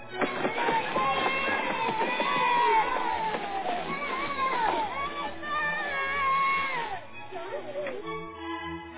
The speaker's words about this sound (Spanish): Estaban todos los niños a la hora del descanso en la escuela corriendo por el parque.